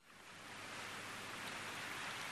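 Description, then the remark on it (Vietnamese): Steady afternoon rain pattering down onto a leaf roof and foliage, a soft, even hiss that swells in over the first moment and then holds constant, with no voices. “chiều mưa, những giọt mưa rã rích rơi từ trên mái lá, từ những lá cây tạo thành một âm thanh đều đều, buồn đến lạ lùng.”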